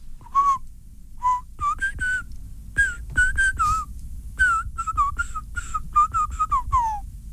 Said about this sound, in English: Okay, give us your best whistle. I'll try and play you a song via whistling.